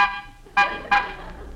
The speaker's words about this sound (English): Pull up, Rochester. We'll stop here. Uh, honk the horn.